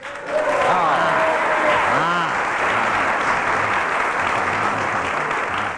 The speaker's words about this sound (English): Oh, well, I've got a clap. Got a round of applause. I've got a clap.